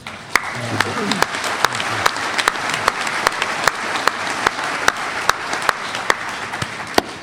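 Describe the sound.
An audience at a sobriety meeting applauds steadily and fairly loudly throughout, a dense wash of clapping with a few sharper individual claps popping out, and faint voices briefly audible near the start.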